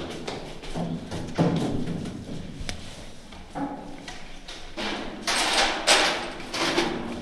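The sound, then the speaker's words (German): A stuck door is jerked and forced, giving a run of irregular thumps, scrapes and rattles over several seconds, with a louder grinding push near the end. “Die Türe klemmt.”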